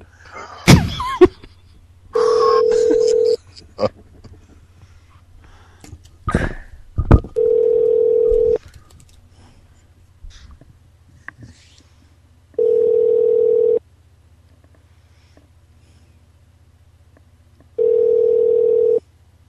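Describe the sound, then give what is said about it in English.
A telephone ringback tone, heard while a call is transferred to a bell desk, repeats four times, each a steady low-pitched buzzing purr lasting about a second with long silent gaps between, after a few sharp clicks and thumps of a handset. “Let me transfer you to the bell desk and see if she's there.”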